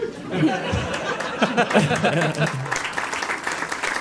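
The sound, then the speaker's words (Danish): A crowd claps in a dense, steady burst of applause lasting several seconds, with laughter and voices mixed in beneath the clapping. “Der var simpelthen klap til lygtepæl der.”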